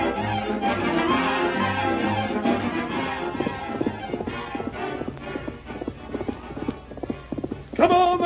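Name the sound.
horse hooves galloping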